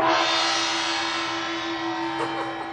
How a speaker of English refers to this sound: Every time her team places a woman in a job, there's this office ceremony. Once we hire any woman in the workplace, we hit the gong.